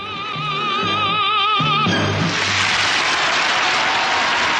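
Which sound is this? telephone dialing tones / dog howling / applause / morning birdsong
applause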